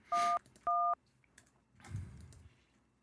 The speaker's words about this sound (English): All right, you dial.